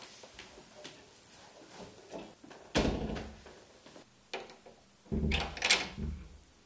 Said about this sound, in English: Should I close the door? Okay.